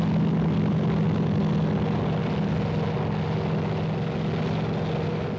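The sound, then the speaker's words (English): A military helicopter in Vietnam coming in to land under Viet Cong gunfire to pick up wounded, its engine and rotors droning loudly and steadily, a dense mechanical roar with a low pulsing hum and no voices. “The chopper tries again, its crew risking their lives.”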